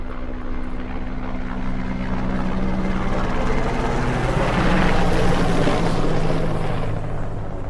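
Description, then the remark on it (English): An Mi-17 helicopter flies, its rotors and engine making a steady, loud, throbbing roar that swells slightly midway and holds throughout, with no voices. “The Czech army was planning to reenact the jump as precisely as possible, except this time they were going to use an Mi-17 helicopter rather than the Halifax bomber which airlifted the troops 70 years ago.”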